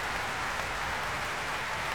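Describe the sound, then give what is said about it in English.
A capacity concert crowd at the Royal Albert Hall stamps its feet on a bank holiday Monday evening, making a dense, steady roar of thuds and clatter that blurs into one continuous wash of noise, loud and unbroken for the whole stretch. “You can hear that stamping from this capacity Royal Albert Hall crowd this bank holiday Monday evening.”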